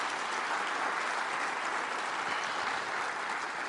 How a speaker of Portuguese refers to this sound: Dê para Jesus uma bem forte salva de palmas.